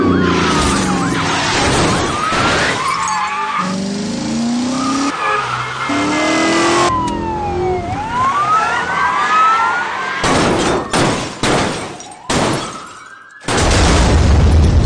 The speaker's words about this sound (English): Buckle up and feel the need for speed with Car Chase Elements.